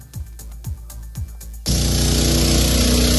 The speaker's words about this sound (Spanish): El de las bombas de extracción de agua, que siguen a pleno rendimiento después de 5 días seguidos de lluvia.